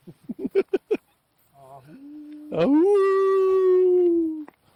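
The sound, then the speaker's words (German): In a remote spot in Brandenburg, Germany, a person imitates a wolf, giving a quick series of short yips and then a long, loud howl that swells, holds steady and slowly sinks in pitch. “In Brandenburg gibt es wieder Wölfe, ne?”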